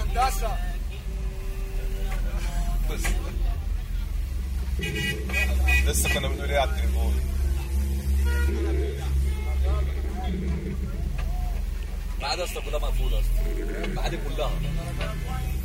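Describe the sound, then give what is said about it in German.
Dense street traffic heard from inside a taxi: a steady low engine rumble, repeated car horn toots, and indistinct voices and crowd babble outside, where another taxi driver has parked his car and is directing the traffic himself. “Ich sitze immer noch im selben Taxi. Auf der Straße steht jetzt ein anderer Taxifahrer.”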